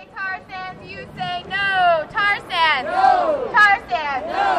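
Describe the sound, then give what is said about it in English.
A crowd of nearly 3,000 protesters marching in San Francisco against a proposed tar sands oil pipeline chants together in loud, rhythmic bursts, voices rising and falling in repeated short phrases over a steady murmur of the gathering. “You could hear the echoes on the West Coast, in downtown L.A., and in San Francisco, where nearly 3,000 people marched in solidarity.”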